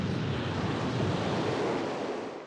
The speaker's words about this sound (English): All night long, the brothers and their sister clung tightly to one another to keep from being washed off by the pounding sea.